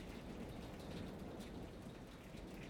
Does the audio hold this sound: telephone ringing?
no